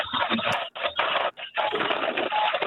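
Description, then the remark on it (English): Harsh, crackling electronic interference on a phone line caused by other incoming calls, arriving in loud noisy bursts broken by a few brief dropouts. The noise fills the line with no voices. “Oh, we're having a little noise issue here. That should go away. Those are other phone calls I'm getting.”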